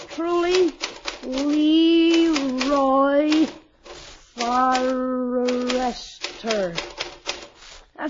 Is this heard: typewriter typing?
yes